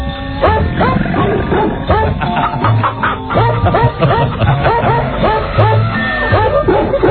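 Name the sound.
dogs barking and yipping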